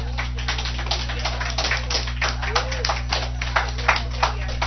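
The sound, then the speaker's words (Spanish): An audience at a church service applauds for the Lord: dense, steady clapping from many hands that carries on for several seconds at a moderate level, with a low electrical hum and some voices mixed in underneath. “Y eso merece un aplauso al Señor.”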